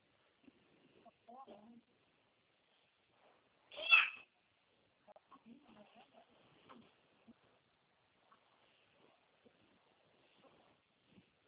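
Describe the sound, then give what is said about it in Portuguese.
A single loud, high-pitched cat meow rings out clearly as a girl plays with the cat, surrounded by faint, quiet background voices and soft scattered sounds. “Desculpa, a minha filha mexendo com o gato.”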